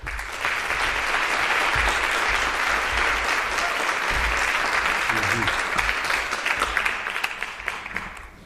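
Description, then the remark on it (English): A crowd at the CCC claps loudly and steadily for several seconds as a guest and Afro Roots are welcomed on stage, a dense, hissing wash of many hands that tapers slightly at the end, with a few faint voices mixed in. “So again, give a big applause for yourself.”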